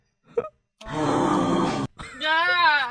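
A voice imitates heavy breathing, loud: a quick short catch, then a long raspy exhale, and finally a wavering, moan-like breath. No words are spoken.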